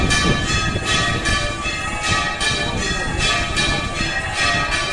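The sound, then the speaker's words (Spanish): The bells of the church of San Lorenzo, a church now 70 years old, peal continuously, with strikes about every second and a bright, sustained ringing that hangs between them. The sound is loud and steady, with a murmur of background noise underneath. “Son las campanas de la iglesia de San Lorenzo, que cumple 70 años.”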